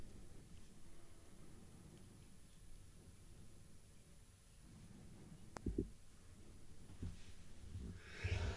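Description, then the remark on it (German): A single sharp sneeze bursts out near the end, a loud, hissy blast after a quieter intake, over a steady low rumble and soft breathing. “Gesundheit.”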